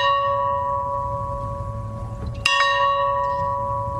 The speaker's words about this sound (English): A farm bell outside his boyhood home rang 39 times in honor of his presidency.